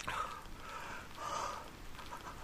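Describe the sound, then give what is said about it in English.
Hail falls in a steady, dense patter, a continuous hiss of small impacts that swells slightly and then eases, with no voices present. “It's starting to hail.”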